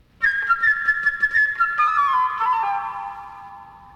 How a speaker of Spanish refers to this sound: El pájaro, amigo de Pedro, será la flauta ligera y gorjeante.